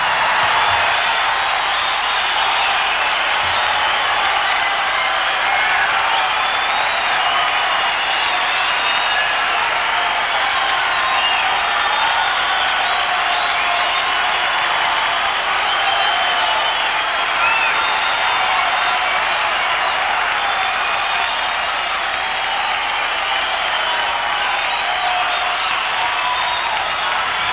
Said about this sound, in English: Hear the applause, and that's a bid for David Bowie to come back on, and they are coming back on. We're at the Santa Monica Civic, October 20th, 1972.